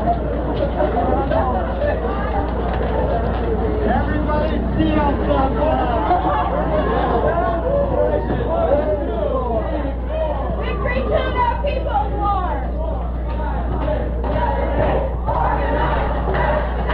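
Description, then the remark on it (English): A large protest crowd marching in the street fills the space with continuous overlapping voices and raised shouts, some calling to go into the Meyer and Frank store, a steady loud din with no pauses and a low rumble underneath throughout. “There's shouts that they should go into Meyer and Frank.”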